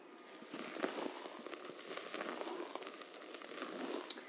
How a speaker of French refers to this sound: Je ne sais pas si c'est la chaleur du chocolat qui se mélange avec les blancs en neige, mais c'est comme si ça crépitait tout doucement.